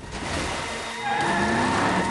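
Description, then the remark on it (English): The van's engine (the Mystery Machine in a Scooby-Doo film, driven by Fred) revs hard and steadily, its whine rising in pitch as it speeds backward, with a faint tire-squeal edge over the continuous roar. “Fred reverses at speed, Shaggy and Scooby watch in horror as they close in on Captain Cutler.”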